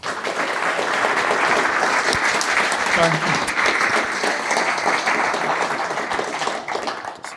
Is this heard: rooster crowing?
no